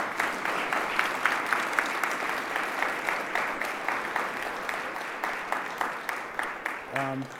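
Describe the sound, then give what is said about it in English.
An audience claps steadily for several seconds for the panelists of a panel discussion, a dense, sustained round of applause from a sizable crowd, with a brief tonal sound appearing near the end. “Well, round of applause for these amazing panelists.”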